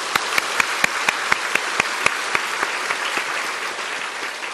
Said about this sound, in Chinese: 在这里呢，容许我们用一些掌声多谢大家。